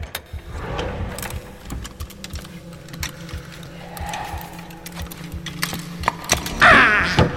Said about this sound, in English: Now, let me just open this bottom drawer here.